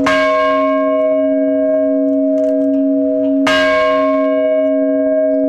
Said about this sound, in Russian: Там владыка Владимир по морской традиции трижды ударил в старинный колокол.